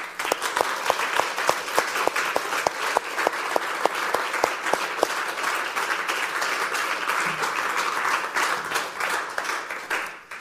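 Warm applause from an audience, many hands clapping in a dense, steady patter with a few sharper individual claps, sustained at an even loudness for about ten seconds with no voices.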